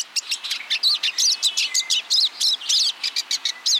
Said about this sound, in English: Hear that? It's the chatter of hungry pine siskins at a thistle feeder.